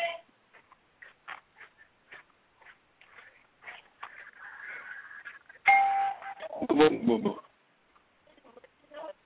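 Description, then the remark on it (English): A house doorbell rings loudly partway through, its bright tone sustaining and chiming again over low background murmuring and scattered voices. “Somebody's hitting the doorbell.”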